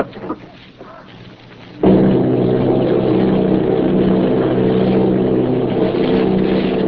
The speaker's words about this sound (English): Army bombing plane, V-843, off Bayo, New Jersey. Lieutenant, both commanding eight bombers, reporting to Commander Fairfax, Langham Field.